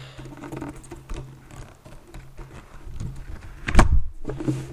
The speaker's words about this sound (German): Also umblättern.